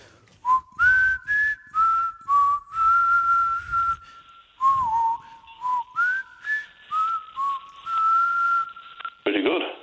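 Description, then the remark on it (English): A person whistles a pop song melody, clear sustained notes with slides between pitches, phrased in two runs with a short pause in the middle, ending with a brief breathy noise. “I'm like the … of whistling”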